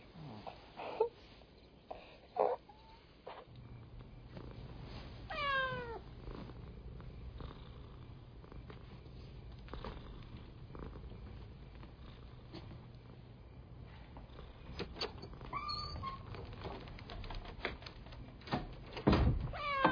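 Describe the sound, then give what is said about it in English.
A cat meows a few times, short rising-and-falling cries spaced apart, over a steady low purr-like rumble and faint clicks and knocks. “He's not God's cat, he's my cat.”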